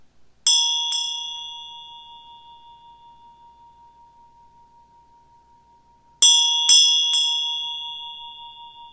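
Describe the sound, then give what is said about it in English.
A meditation bell rings clearly, struck twice in quick succession, then after a long ringing decay struck three more times, its bright sustained tone hanging in otherwise quiet surroundings. “When I ring the bell, I want you just to hear the bell.”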